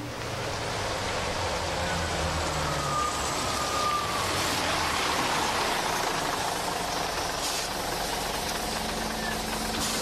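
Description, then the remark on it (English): A bus engine runs steadily with a low, continuous rumble and a broad wash of road and mechanical noise, holding an even loudness throughout with no voices. “Does this bus go to the loop?”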